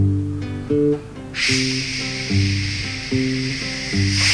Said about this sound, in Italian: Scende l'acqua, scroscia l'acqua, calda, fredda, calda, giusta.